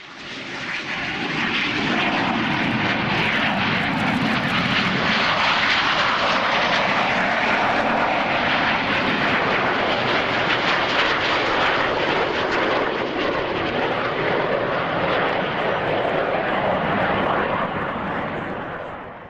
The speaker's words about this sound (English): In a tribute to Hank, I did all of the transitions in aircraft that he flew. So maybe you can pick out exactly what airplanes they are as they do their fly past, as they would say up in Canada.